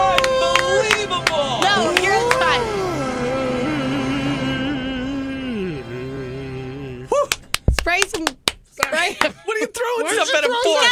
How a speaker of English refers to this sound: I did clap. I said, wow, and I clapped